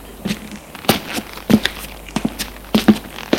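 Footsteps of a man climbing stairs: a steady series of soft thuds and scuffs, about a dozen steps in a slightly uneven rhythm, with no voices.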